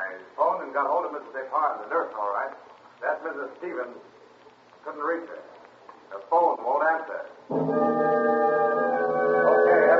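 telephone ringing unanswered

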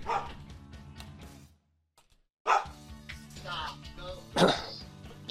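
dog barking

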